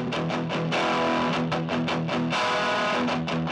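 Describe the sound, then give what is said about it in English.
Distorted electric guitar played through a Rat distortion pedal into a tiny 5-watt Vox amp, gritty sustained chords broken by short choppy strums, loud with no voices. “I recorded through a Proko Rat, the best distortion pedal, into... I just have this tiny Vox amp.”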